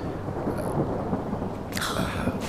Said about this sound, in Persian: داره بارون میگیره